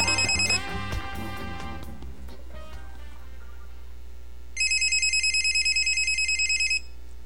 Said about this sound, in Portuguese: atende o telefone.